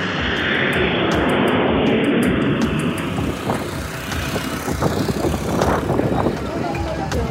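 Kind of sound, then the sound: vehicle, airplane engine flying overhead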